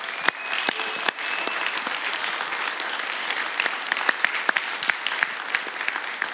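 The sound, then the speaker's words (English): A room full of people claps steadily, a dense wash of hand claps with a few sharper claps standing out, sustained at moderate loudness for several seconds without any talking. “Can we just give him a round of applause again?”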